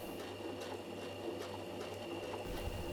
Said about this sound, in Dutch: Geef je over aan het rustgevende geluid van de naaimachine.